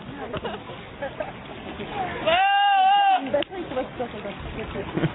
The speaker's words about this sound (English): Oh, this is great. This is one of my two favorite... goats. This is just audio of goats.